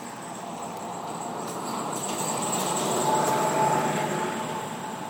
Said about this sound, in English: Okay, can you hear this? Okay, there's a car coming through, so...